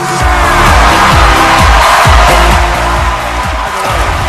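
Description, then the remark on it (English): A loud, steady wash of fake, canned studio applause and cheering on the Late Late Show as host James Corden welcomes Rob Gronkowski. It never swells or fades and is layered over a thumping, rhythmic band tune. No one speaks. “That's not real applause.”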